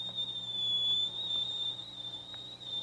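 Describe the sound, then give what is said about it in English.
A kettle on the fire whistles steadily as water boils, a sustained high-pitched tone holding for a few seconds with a faint low hum beneath, no voices present. “That means the water's hot enough to boil.”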